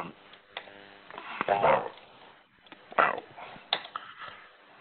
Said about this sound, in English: dogs barking, everything going on. If you're calling in, we got everything loose tonight.